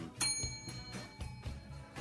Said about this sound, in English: That did not deserve the bell sound effect.